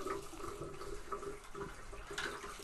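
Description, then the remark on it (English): Hot water runs steadily from a tap into a bath, with sloshing and gurgling as a woman holds a melted pile of blue and black plastic under the flow, fairly loud, with no voices. “So Mum's holding it underneath the bath of hot water.”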